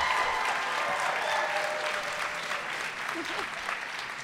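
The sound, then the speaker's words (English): An audience claps loudly and steadily for several seconds to show they have seen the show Hamilton. It is a dense crackle of many hands, though not a huge crowd, with a faint murmur of voices mixed in. “I think it means something that there's not a huge number of people clapping, but they clapped very loudly.”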